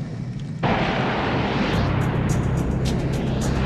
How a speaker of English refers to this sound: But it does culminate with Top Gun. You have Tom Cruise. You have planes flying all over the sky, which is always dramatic.